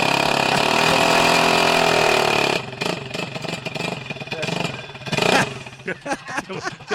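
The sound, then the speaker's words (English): A racing lawnmower engine roars loudly, its pitch swooping up and down as it revs, then breaks into choppier, sputtering bursts of throttle. “You want to rev that up one more time? See what it sounds like?”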